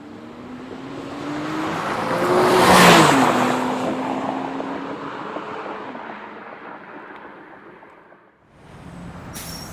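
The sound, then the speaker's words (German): A Porsche sports car engine roars and revs, swelling to a loud peak before its rising whine fades away, followed by a brief burst of engine noise at the end. “Matthias Schober fährt seit seinem 18. Lebensjahr Porsche.”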